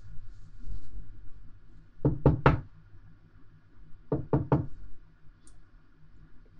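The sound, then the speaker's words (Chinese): Someone raps three quick knocks on an apartment door (building 16, unit 1306), pauses, then knocks three more times. The knocks are crisp over a faint low background hum, with no talking. “是我啊，表哥，开门。”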